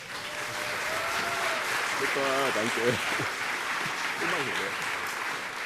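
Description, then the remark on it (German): A crowd at the GPN claps and applauds steadily for the bar crew, a dense continuous wash of clapping with a few brief voices speaking over it. “Ein Applaus für die Bartrolle.”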